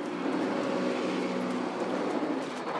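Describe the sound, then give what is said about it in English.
A bus drives by on the road in the morning, its engine a steady, loud rumble with a low droning hum that holds for a few seconds. No one speaks. “Where that bus has turned down to, so it must be coming up soon.”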